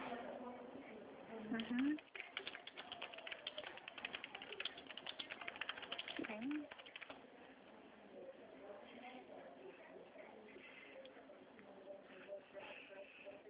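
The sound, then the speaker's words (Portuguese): Rapid, irregular clicking of keys on a computer keyboard as a woman types, fairly loud for several seconds, with a couple of brief vocal sounds, before fading into quieter background noise. “Espera aí que ela está digitando.”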